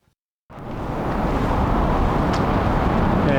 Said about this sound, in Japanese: 上を車が通っているというのがよく見えますね。